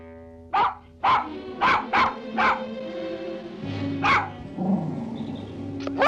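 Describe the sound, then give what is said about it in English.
A terrier, Bobby, chases a rat across a grave marker at Greyfriars, barking in a quick run of five sharp, excited yaps, pausing briefly, then letting out a couple more barks with a soft whining sound in between. “Bobby perks up and chases after it.”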